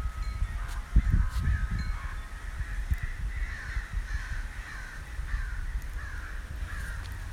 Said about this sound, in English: I'm about ready to take my dog out for his afternoon thing, but there's a bunch of crows out here. I would say there's about at least 10. And they're all over the place. And I kind of have, like, crows scare me. I'm sorry, but they do.